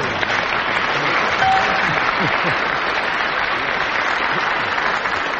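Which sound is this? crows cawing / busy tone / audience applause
audience applause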